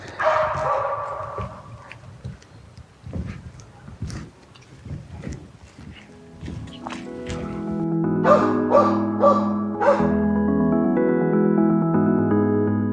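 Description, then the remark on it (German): Dogs with two passers-by bark in short, irregular bursts as they pass. After a few seconds a steady melodic tune takes over and continues to the end. “So, nachdem da jetzt gerade wieder zwei mit Hunden kommen, mache ich da mal kurz eine Pause.”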